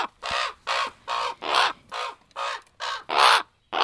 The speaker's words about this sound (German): Aber sie befanden sich in einem Kasten mit einem verschließbaren Guckloch. War es geöffnet, hörten sie per Playback die Laute von Raben.